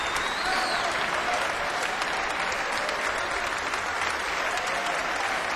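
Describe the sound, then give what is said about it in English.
Sustained, dense applause from the orchestra and a sold-out crowd at City Halls in Glasgow during Celtic Connections, bringing a banjo player back to the stage. A steady wash of many hands clapping at even loudness throughout, with no distinct voices rising above it. “Here he comes at quite a canter, getting applauded by the orchestra as well as by the sold-out crowd here at City Hall's.”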